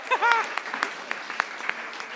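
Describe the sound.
A short burst of scattered applause, with a brief voiced whoop at the start, followed by a thin spread of individual claps from a small group that stays fairly soft.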